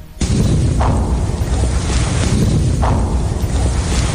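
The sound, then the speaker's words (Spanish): Artillery fire in the Zaporizhzhia area of Ukraine rumbles as a loud, continuous low roar, broken by two sharper blasts about two seconds apart. No one speaks. “Aquí se escucha la artillería.”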